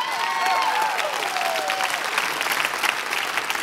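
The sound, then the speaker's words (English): An audience claps steadily, a dense wash of many hands with a few whoops and cheers rising over it early on, holding at an even, fairly loud level throughout. “You have no idea how glad I am that you clapped at that part.”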